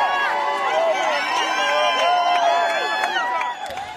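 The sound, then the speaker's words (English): A large crowd in Tel Aviv cheers and shouts to welcome back hostages released by Hamas, many excited voices overlapping in a loud, steady roar that eases slightly at the very end. “Crowds in Tel Aviv welcomed them back.”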